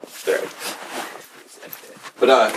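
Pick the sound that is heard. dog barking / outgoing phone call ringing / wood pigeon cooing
dog barking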